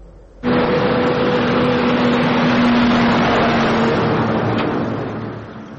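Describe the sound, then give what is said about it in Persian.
A heavy cargo truck engine rumbles up suddenly, holding a loud, steady droning roar with a low hum before easing off slightly at the end. The trucks are moving through a reopened Afghanistan–Pakistan border crossing. No voices are heard. “صدها ماشین بورکش که در دو طرف مرز افغانستان و پاکستان درمانده بودند دیگر بوره راهشان را ادامه دادند”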